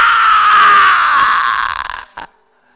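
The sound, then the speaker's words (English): A loud scream holds for about two seconds, its pitch sliding slightly downward as it fades, then a short, sharp second cry ends it. “Screaming. Mark chapter 1, verse 22. Screaming. Ah!”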